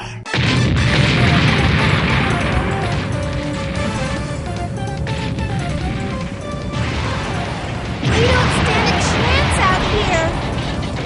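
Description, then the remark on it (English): A sustained barrage of a ship's port cannons firing, heavy booms piling into a dense, continuous roar that stays loud for several seconds, then surges again near the end. “Time to blow him and that ship of his to kingdom come. All port cannons, prepare to fire!”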